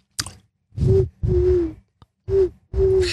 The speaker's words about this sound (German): Was geil daran ist, wenn man die Zunge rollen kann. Ja. Man kann dann mit der Zunge pfeifen.